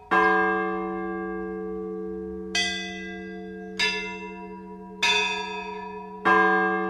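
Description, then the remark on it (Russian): The bells of the church in Porpishche ring out in five resonant strikes, each one leaving a long, humming sustain that overlaps the next. The tolling is loud, with no voices present. “Есть своя история у колоколов храма в Порпище.”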